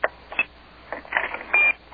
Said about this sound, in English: I just heard the clear tone. We're fucking gone. The second you hear that 26 beep back, you know you fucking just got disconnected.